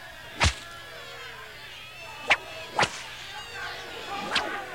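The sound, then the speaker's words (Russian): Four sharp, loud whip lashes crack at uneven intervals, two landing close together, as Isa (Jesus) is flogged before a crowd, over a wavering, moaning undertone of voices and low sustained sound. “Но жестокое избиение Исы плетьми не удовлетворило растущую ярость толпы.”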